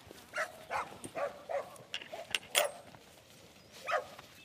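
A young border collie cross heading dog puppy named Em yaps in a rapid series of short, high-pitched barks, then pauses briefly before one last yip. No one speaks.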